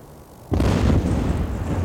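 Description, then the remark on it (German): A car bomb detonates with a sudden, deafening boom after a quiet half-second, then a dense roaring rumble that lingers and slowly settles for over a second. No voices are heard. “Wie üblich schien es allen die lauteste Detonation, die sie je gehört hatten.”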